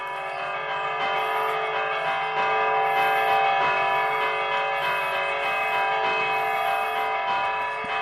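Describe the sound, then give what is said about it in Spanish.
Church bells peal continuously and loudly, their overlapping ringing tones blending into a sustained, shimmering wash for the whole stretch, with no voices over them. “Que repiquen las campanas”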